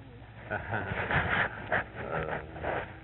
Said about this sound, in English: Well, a nice little dog.